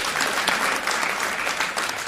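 A crowd applauds steadily, a dense, even patter of many hands clapping at a constant loudness for about two seconds, with no voices standing out.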